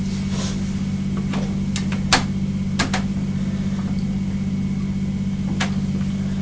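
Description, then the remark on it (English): A fire engine idles, its steady low diesel rumble droning throughout, broken by a few sharp clicks and knocks. No siren sounds. “No, it's a fire. It's a fire engine.”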